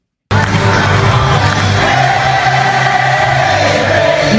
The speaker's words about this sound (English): And the entire crowd stood up and sang along when it was played over the PA system. It was a pretty cool moment.